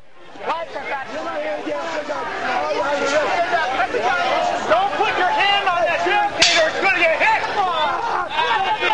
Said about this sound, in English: One police officer broke a billy club after striking it upon a barricade, this in an effort to keep protesters at bay, the splintering of the club eliciting joyous shouts of laughter from the crowd.